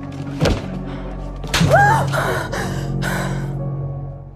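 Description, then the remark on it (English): In a dramatic scene, a man backhands a woman across the face: a sharp smack lands after a softer thump, followed at once by a pained, rising gasp and then some shaky breathing. “Not sure that using the word impact versus difference was the direction in this particular scene when he backhands her across the face.”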